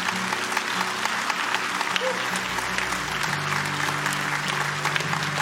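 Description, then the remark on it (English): A large crowd applauds steadily, dense clapping mixed with cheers and shouts, loud and continuous throughout, with a low sustained hum underneath. “But Jesus called people publicly, and this is a cheering crowd.”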